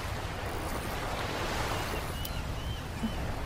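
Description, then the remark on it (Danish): Steady wash of sea water lapping and sloshing against a fishing boat while people fish with hooks, with a constant low rumble and some wind buffeting. “Åh, nogle bølger, mand.”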